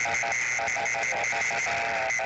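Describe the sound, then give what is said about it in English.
Interference from a Danfoss RV refrigerator controller picked up on HF radio at Quartz Fest in the desert: a steady train of buzzy, tonal beeps pulsing rapidly in a Morse-code-like rhythm over constant static hiss, with no voices. “It is, that's right, a Danfoss controller on many of the RV refrigeration systems.”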